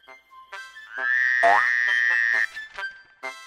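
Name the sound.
frog croaking sound effect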